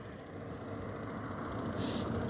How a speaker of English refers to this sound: Sounds like that car needs to get fixed.